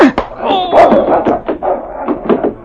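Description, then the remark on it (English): Inside a cabin, a big gray dog snarls and barks savagely as it springs for a man's throat, its teeth closing on a lead pipe: a loud, continuous burst of vicious growling and yelping lasting a couple of seconds with no one talking. “As the big gray dog sprang for the throat of the man who had struck his master, had his teeth closed on the lead pipe that was used as a weapon.”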